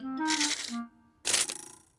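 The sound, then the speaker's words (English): A tape measure is pulled out in two quick metallic bursts, a rasping, faintly ringing slide of the blade with a short pause between, no voices, used to measure for putting up a picture on a wall. “First, I need a tape measure.”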